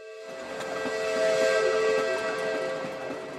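A steam train's whistle sounds a long, steady, chord-like blast that swells and holds for several seconds, over the rumbling, hissing noise of the moving train.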